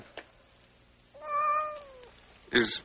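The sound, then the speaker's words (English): A single drawn-out cat meow, clear, sliding slightly downward in pitch, with a brief click before it and a sharp rustling thump right after. “I got all these cats.”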